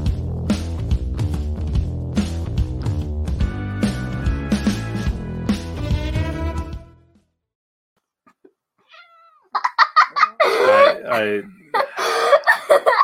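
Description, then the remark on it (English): After several seconds of busy music and a short silence, a cat meows in wavering, repeated cries while a child laughs. “If you weren't able to tell from the laughing child and the cat crying into the sadness that this is the Wednesday show, the midweek show, because there's a cat and there's a child.”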